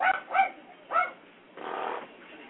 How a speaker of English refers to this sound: I can hear that dog. That's a Texas yap. Yep, that's him yapping at the cats. Leave those poor cats alone.